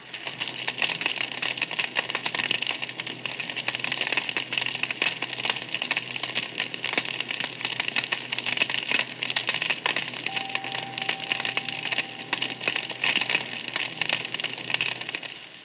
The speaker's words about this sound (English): In the next example, you will hear the snapping shrimp. The shrimp is found in large numbers in shallow southern waters, both in the Atlantic and Pacific. It produces a harsh clicking noise.